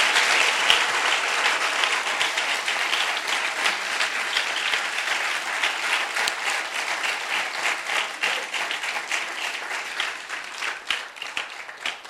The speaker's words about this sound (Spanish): ¿Cuánto le dan aplausos al Señor?